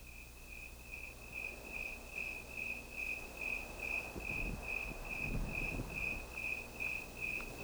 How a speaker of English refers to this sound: Listen to this section of tape made just at dawn. You'll hear the civilized sounds of a lady's high heels tapping their way down the walk as the eternal canyon crickets sound their quiet song to the morning sun.